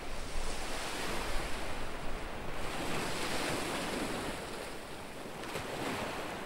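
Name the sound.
ocean waves and wind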